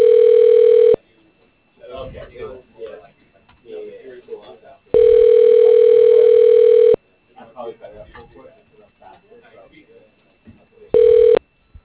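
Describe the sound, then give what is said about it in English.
Ringback tone of an outgoing phone call: three loud, steady, mid-pitched electronic tones, each lasting a second or two and spaced several seconds apart, with voices talking in the gaps. “The person you have dialed can't take your call now.”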